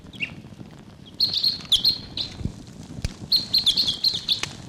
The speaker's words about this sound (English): There may be foraging here in Barfoot Park. I don't see anybody, but they may be coming close. Decoys are really excited here. Type 6, a bird calling in the distance there.